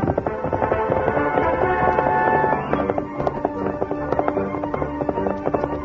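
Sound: horse galloping hoofbeats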